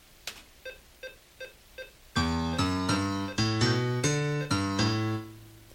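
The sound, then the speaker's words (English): Four short, soft synth clicks count in, then a just-recorded MIDI bass line track plays back, a series of sustained, buzzy synthesized notes that step up and down in pitch, loud and steady with no voices. “Okay, there's the beginning of our bass line. Let's hear the track play back by hitting the space bar.”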